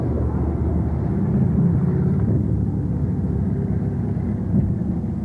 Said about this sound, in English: And we've got competition here. This is like the LA freeway. The bus is passing.